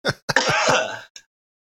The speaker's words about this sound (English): excuse me, I'm going to cough here. That's okay.